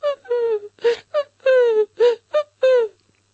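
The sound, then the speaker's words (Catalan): A human voice imitates a fox howling: a run of about eight short, whining wails, each sliding down in pitch, separated by brief pauses and fairly loud. “Llavors la guineu va començar a odolar.”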